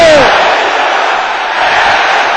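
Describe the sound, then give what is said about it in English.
A crowd of women's voices, the sisters in the audience, shouts together in a loud, sustained roar that fills the whole moment, steady, with no single voice standing out. “Can I hear the sister shouting it loud and clear?”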